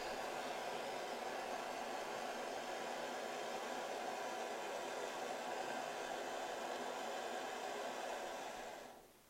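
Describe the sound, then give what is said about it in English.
A butane torch roars in a steady, loud hiss for about nine seconds as it heats a dab rig, then cuts off abruptly. No one speaks. “Now, if you've never hit off a dab rig before, folks, once you heat it up with the torch, you got to wait a few seconds to let it hit the ideal temperature, which is what we're doing right now.”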